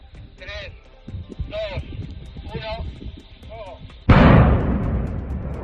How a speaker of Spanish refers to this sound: En octubre de 2022 caía, en una voladura controlada, la chimenea de la térmica de Velilla en Palencia.